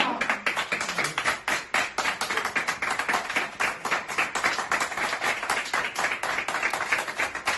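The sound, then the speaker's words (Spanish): Sustained applause and ovation from a crowd at the end of a welcome, dense overlapping claps forming a steady, bright wash of sound for several seconds with no speech. “Es una bienvenida, claramente, además que finaliza con ovación, con aplausos.”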